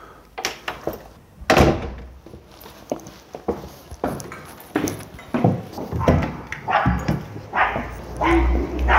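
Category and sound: animal, dog barking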